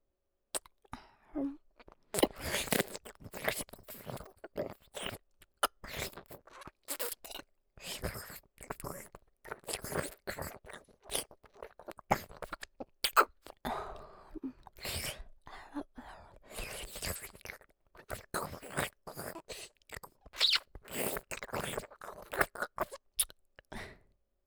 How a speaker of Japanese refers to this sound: 卑猥な水音に興奮してしまいましたか。